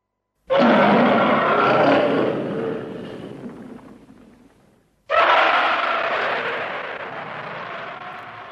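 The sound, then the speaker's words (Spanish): Two long, harsh monster roars from a giant ape, each bursting in loud and rough, then slowly fading; the second follows right after the first breaks off. No voices. “Claro, es que estaba gruñendo en japonés.”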